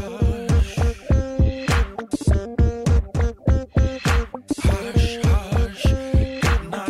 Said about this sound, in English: It's a rhythm machine, and it has a compression ratio in it that is ferocious.